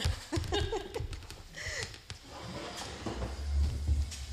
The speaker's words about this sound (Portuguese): Peço desculpa, tenho que trocar a cadeira.